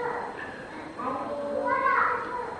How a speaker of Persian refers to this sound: اون بچه ها رو ساکت کنید، خواهش میکنم، خواهش میکنم اون بچه ها رو ساکت کنید.